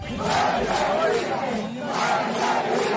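Hundreds of anti-government protesters in San Antonio de los Baños, Artemisa province, Cuba, on 11 July 2021 chant a slogan in unison, loud and continuous, with rhythmic swells of many shouting voices and a brief dip in the middle before the chant surges again.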